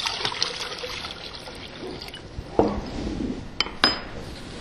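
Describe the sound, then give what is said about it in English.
Liquid latex mold builder, made of natural latex, water and ammonia, pours steadily into water with a soft trickling for a couple of seconds, then a few sharp clinks of glass or a container being set down. “So I'm going to pour some into the water here.”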